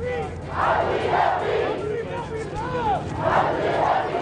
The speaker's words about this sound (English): Cheers from those in the crowd as the Pope's plane touched down a short while ago at Andrews Air Force Base.